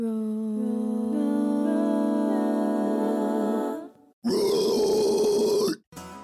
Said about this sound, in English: That roar was … from …. … is well known for a fast-paced machine gun-like distortion style, and I have been super interested in the origin and the development of this technique.